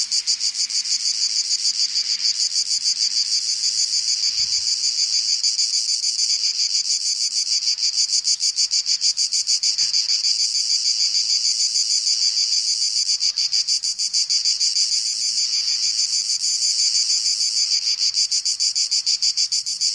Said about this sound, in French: Cigale en Provence, 1967.